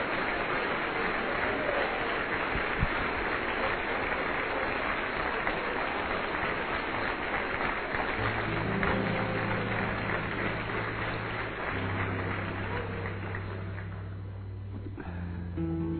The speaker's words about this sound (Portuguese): Aplauda o Senhor e celebra o seu nome.